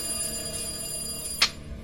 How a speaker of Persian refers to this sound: اصلا باورتون نمیشه، ولی با هر بار زنگ تلفن انگار تمام وسایل خونه میلرزید. برقای خونه ضعیف و قوی میشد.